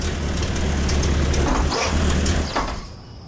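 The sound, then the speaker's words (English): A car's engine rumbles low and steady as the car comes down a driveway, with gritty tire noise over it and a few faint knocks, before the sound drops away at the end. “There's a car coming down the drive.”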